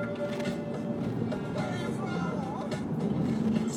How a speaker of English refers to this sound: traffic's not terrible, but it's just bad enough to where, like, I'm wary.